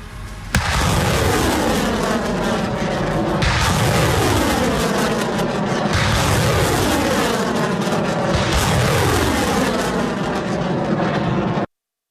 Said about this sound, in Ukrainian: Із реактивної системи «Ураган» та двох систем «Буревій» українські військові зараз будуть вести вогонь по позиціях російських військ у Харківській області. Три снаряди, 3 секунди постріл, вогонь!